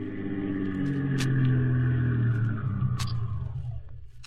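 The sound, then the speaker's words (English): The engine of a black sedan rumbles steadily as it pulls up in front of a small factory building on a little-frequented Brooklyn street on a summer day in 1952, its low hum easing down while it keeps running, with a couple of short clicks along the way. “of a summer's day in 1952 when a black sedan pulled up in front of a small factory building on a little frequented Brooklyn street.”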